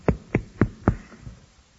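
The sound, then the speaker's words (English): Four firm, evenly spaced knocks on a door land in quick succession, fairly loud, followed by a much fainter fifth tap as the sound trails off. “At first, the knocking was loud.”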